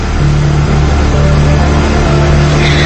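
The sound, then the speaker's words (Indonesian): A motorcycle being ridden at high speed roars loudly, a steady, continuous drone with a strained whine, lasting a few seconds with no voices. “Entah apa yang kupikirkan saat itu, aku menyadari motor yang kukendarai itu tidak dapat kukontrol pada kecepatan tinggi.”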